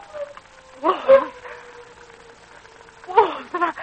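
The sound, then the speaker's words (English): A wolf's long, drawn-out howl holds a steady pitch for several seconds, broken by two rougher, yelping bursts near the start and end, carrying at moderate volume with no voices. “Wolves! Wolves! And I haven't a gun!”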